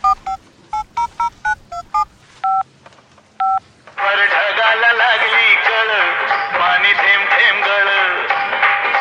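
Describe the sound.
A phone number is keyed in to call someone, a quick run of about nine bright touch-tone beeps, the last two held slightly longer, followed by a loud voice speaking continuously.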